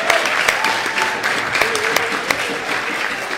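An audience applauds steadily, a dense wash of clapping that holds at an even, fairly loud level throughout, with a few sharper individual claps standing out.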